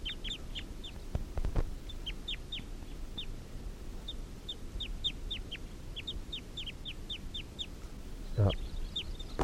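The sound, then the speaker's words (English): Wild male fowl give a steady run of short, sharp clucking calls, repeated every half second or so over a low outdoor rumble, with a couple of louder bursts. “Wild males giving a clucking call.”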